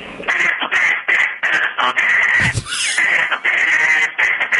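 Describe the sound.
A duck call blown in a loud, steady run of raspy, nasal quacks, about a dozen short bursts in quick rhythm with brief gaps, one lower honk in the middle, no voices.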